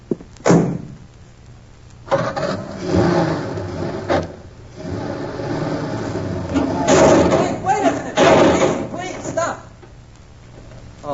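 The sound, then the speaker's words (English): A car engine starts and revs while a person stands on its bumper, with a sharp metallic thunk and scraping as the fender gets bent, while voices sound over the noise. “All right, I'll stand on the bumper and you start your car.”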